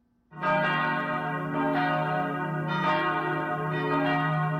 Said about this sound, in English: Palm Sunday dawned in Jerusalem's old city to the sound of bells at the ancient Church of the Holy Sepulchre.